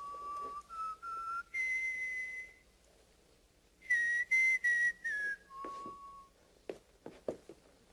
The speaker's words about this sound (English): He likes to, it's rumored he likes to whistle sad ballads. He just starts whistling.